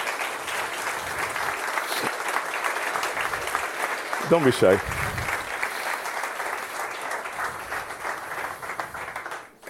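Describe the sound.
Steady audience applause fills the whole stretch, a dense patter of many hands clapping at an even level, with a brief spoken remark rising over it midway.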